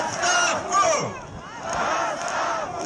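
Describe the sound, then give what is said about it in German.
A large crowd of residents at a protest demonstration demanding a governor's resignation shouts and chants together in a dense, continuous roar, with voices rising and falling in loose waves throughout. “Auf Demonstrationen fordern Anwohner den Rücktritt eines Gouverneurs.”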